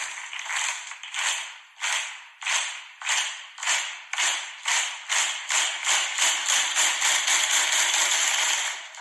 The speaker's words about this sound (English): Every time I hear a slow clap like that, I think of the locker room in Varsity Blues.